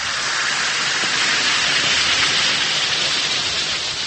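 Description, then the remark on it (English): A steady hiss of one or two Alka-Seltzer effervescent tablets fizzing in a glass of water, a dense crackling sizzle that holds at an even level for several seconds with no voices. “Simply drop one or two Alka-Seltzer tablets into a glass of water and listen to it fizz.”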